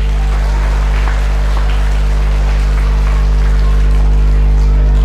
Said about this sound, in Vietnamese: Cho một tràng vỗ tay thật là lớn nào.